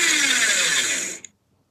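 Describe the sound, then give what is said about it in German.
A newly bought paper shredder whirs loudly and steadily for about a second, with a harsh, grinding motor noise, then cuts off abruptly with a small click, leaving silence. “Es ist ein Papierzerhäcksler. Ich habe mir einen, wie heißt das? Einen Aktenvernichter gekauft.”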